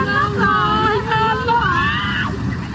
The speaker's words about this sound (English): The scale of what happened in Libya last Sunday is hard to comprehend. You can hear the fear in their voices and the power of the water.